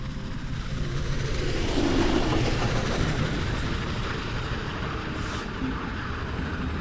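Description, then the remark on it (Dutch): A train rolls steadily along the rails at night, carrying 1,137 people from the Transvaal neighbourhood to Westerbork, its heavy, continuous rumble and rattling wheels filling the scene, with no voices and no break in the noise. “Twee maanden later, in juli, worden 1137 mensen uit de Transvaalbuurt in de nacht met een trein naar Westerbork getransporteerd.”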